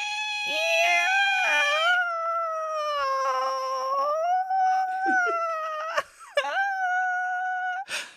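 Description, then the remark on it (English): A pet cat, just woken up, squeals in one long, loud, high-pitched cry that wavers up and down in pitch, broken by a couple of quick catches near the end. No one speaks over it. “I'm like, she's welcoming us back with a squeal.”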